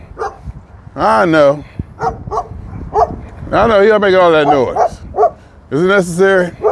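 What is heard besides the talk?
dog barking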